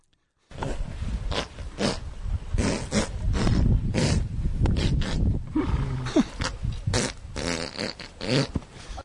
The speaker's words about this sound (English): But it's just such a random noise in the middle of all the farts.